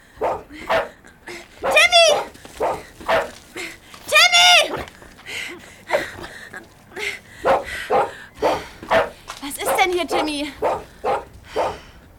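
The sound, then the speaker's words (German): A dog barks excitedly while running back and forth and stopping in front of a storage shed, in a rapid, uneven series of loud barks and high yips, with only brief pauses between bursts over about twelve seconds. “fing an, aufgeregt zu bellen und hin und her zu laufen.”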